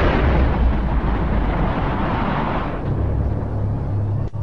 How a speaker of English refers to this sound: The aircraft tore through the Pentagon at an estimated 530 miles per hour. With thousands of gallons of fuel on board, it exploded on impact.